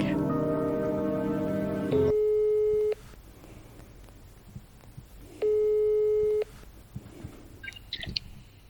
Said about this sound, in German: Okay, also wir rufen jetzt random bei dieser Nummer an. Wenn die nicht nett sind, lege ich einfach auf, okay?